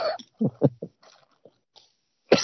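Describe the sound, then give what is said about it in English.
A burst of harsh coughing from someone who has been smoking too much: one rough cough, then three quick, choppy coughs in a row, a quiet pause, and a final sharp cough at the end. “No, I'm coughing, smoking too much while you were playing.”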